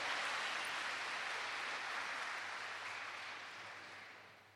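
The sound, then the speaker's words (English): A crowd applauds God after news of a healing from cancer, a dense wash of many hands clapping together that holds strong and then gradually fades toward the end, with no voices standing out. “Let's give God an applause.”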